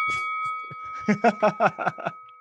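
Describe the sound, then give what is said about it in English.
A bell rings with a sustained metallic tone, then is struck in a quick run of about six clanging dings, like a boxing ring bell, loud with no talking. “Hopefully, the bell doesn't freeze.”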